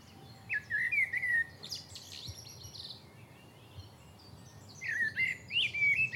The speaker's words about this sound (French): Aujourd'hui, dans la clairière, le merle chante. Tout est paisible et tranquille.